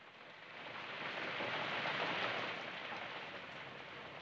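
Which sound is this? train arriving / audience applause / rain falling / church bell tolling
rain falling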